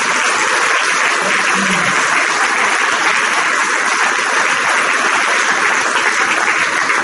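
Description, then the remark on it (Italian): Sustained applause from an audience, a dense, steady wash of clapping that holds at an even, fairly loud level for several seconds without voices. “Nel lavoro di organizzazione, di accoglienza e di supporto, sono ragazzi giovani, sono una futura comunità, speriamo una prossima comunità e quindi a loro va il nostro applauso, il nostro ringraziamento.”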